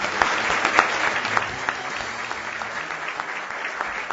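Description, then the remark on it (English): Steady applause from an audience for six General Assembly candidates at an election-year forum in Central Wisconsin, a dense wash of many hands clapping at a fairly even loudness for several seconds, with occasional sharper individual claps standing out. “So please, a round of applause for all six of our candidates.”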